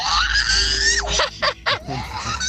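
A girl screams loudly and shrilly for about a second, then lets out a few shorter piercing yelps, in a car on the way back from a family outing, with low rumbling road noise underneath.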